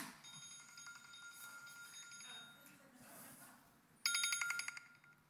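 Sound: phone alarm ringing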